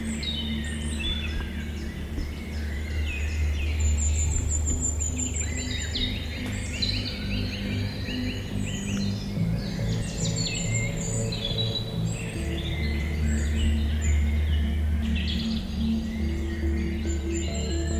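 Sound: bird calls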